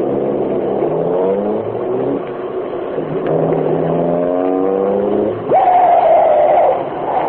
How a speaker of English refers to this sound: Oh, look. Car coming fast. Running close to the curb over there.